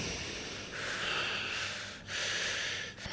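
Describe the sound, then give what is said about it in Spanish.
Two long, heavy breaths, each a rough, airy rush lasting about a second with a short pause between, fairly loud, with no talking. “Hay respiración profunda.”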